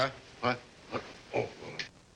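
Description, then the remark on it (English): A pig, Arnold, cries in a barn with a series of four short, whiny squeals and grunts, spaced about half a second apart, fairly soft and heard alone. “I'm not gonna bring that pig into this bedroom.”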